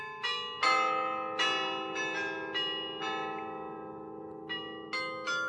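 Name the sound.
bell ringing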